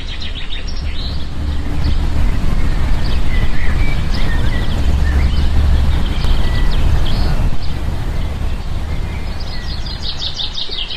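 A steady low rumble of passing trucks and a car fills the rue de la Bellemire, with scattered high bird chirps and tweets sounding over the traffic noise throughout.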